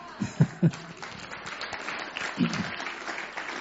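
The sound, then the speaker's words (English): An audience breaks into applause, a dense, steady wash of many hands clapping that holds at a moderate level throughout, with a few louder low bumps near the start and middle. “I'm not sure if the applause is for her surviving that long.”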